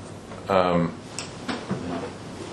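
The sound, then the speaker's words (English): A door swings shut: a brief creaking groan, then a couple of soft knocks as it settles closed against quiet background noise. “Just make sure the doors are shut behind you.”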